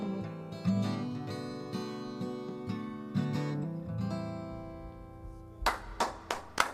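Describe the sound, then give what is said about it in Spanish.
Acoustic guitar music with sustained tones plays, then ends and gives way to a few sharp hand claps from two women, loud and irregular, with other audience applause barely heard. “Hay más gente aplaudiendo, pero se nos oye solo a las dos.”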